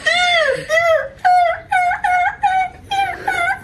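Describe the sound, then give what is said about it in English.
A human voice imitates a seagull with a rapid run of about seven loud, nasal squawks, each high-pitched call bending and wavering in pitch, with no other talking. “I can feel that you really want me to do an impression of a seagull, so I'm going to give it a go.”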